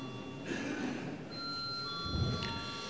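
parliament voting bell

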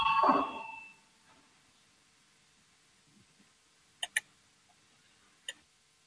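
parliament voting bell signal

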